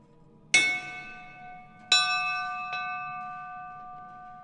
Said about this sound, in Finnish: Ensimmäinen asia, mitä kohtataan, on Upi Antilan kello. Ja tässä tilalle se toimii ovikellona. Voidaan soittaa. Se pitäisi vähän kokeilla vähän lujaa.